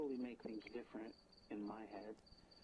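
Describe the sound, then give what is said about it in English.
A steady, high-pitched chorus of crickets chirps continuously in the background while a person talks over it in the foreground. “Again, I had to suppress the quality of this particular section because of the crickets of death.”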